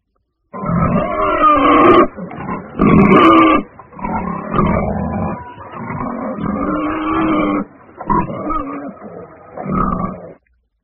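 pig grunting

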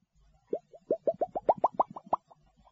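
fish splashing in water

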